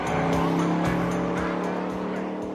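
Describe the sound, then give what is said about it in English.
At night, a red sports car's engine roars loudly as it accelerates away down a road through town, its steady low drone running throughout, with a brief squeal of tires. No one speaks. “He accelerates away down the road.”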